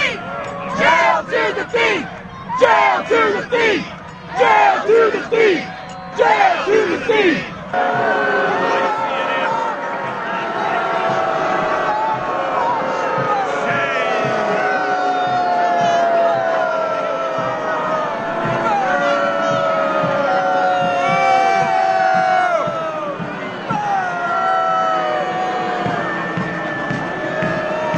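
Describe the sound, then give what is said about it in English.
Thousands of protesters on Pennsylvania Avenue in front of the White House boo and shout at a passing marching band during George W. Bush's inauguration, starting with loud choppy bursts of yelling, then settling into a continuous, dense wall of overlapping jeers and boos that carries on steadily to the end. “The marching band coming down Pennsylvania Avenue to a chorus of boos from the thousands of protesters here to protest George W.”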